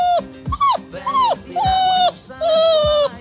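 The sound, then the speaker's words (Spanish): A small dog, a company's office dog, barks in a rapid series of about five high-pitched, whiny yaps, each bark stretched into a short, tonal cry. “Este es el perrito, ¿no?”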